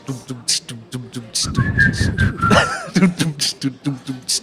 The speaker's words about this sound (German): Ihr könnt man pfeifen. Ich mach den Beat und ihr pfeift.